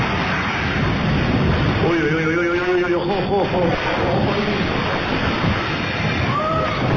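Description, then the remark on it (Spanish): Loud, continuous roar of storm waves pounding the shore, a heavy wash of churning water with no pauses, while indistinct voices briefly call out over the noise. “Las playas han sido arrasadas todas de norte a sur de la provincia, pero con especial daño en el litoral sur, donde las olas podrían llevar haber llegado a los 8 metros.”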